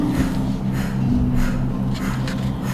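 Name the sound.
slow rhythmic breathing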